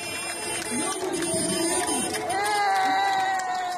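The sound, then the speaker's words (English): A dense crowd cheers and shouts steadily in downtown streets of a city in southern Brazil as a caravan of 8 huge trucks carrying donated food rolls in, with mingled voices and a sustained horn-like tone rising over the din toward the end, loud throughout. “In this video posted on Twitter, the caravan of 8 huge trucks rolls into downtown streets amid cheering crowds.”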